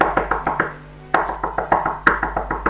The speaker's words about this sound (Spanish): Pero no fue así. El lobo pegó a la puerta.